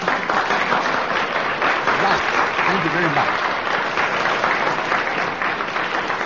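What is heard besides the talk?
studio audience applause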